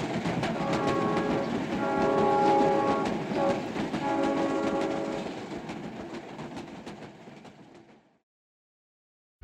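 A train rolls along the rails with a steady rumble and rhythmic clatter, a sustained metallic whine riding over it, before the sound fades and cuts to silence.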